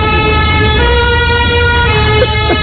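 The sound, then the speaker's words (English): A real French emergency vehicle siren, recorded in France, blares loudly with steady, harmonic-rich tones over a heavy rumble of engine and traffic noise. There is no talking. “Guys, you got the sirene. Yes, we did. Real thing.”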